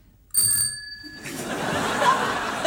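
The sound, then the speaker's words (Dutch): A voice imitates a bicycle bell with one bright, ringing 'tring' that lasts about a second, followed by a wash of noisy laughter and crowd sound. “Landbouw die kan heel goed in het donker... In het donker... Ja. Een fietsbel nadoen.”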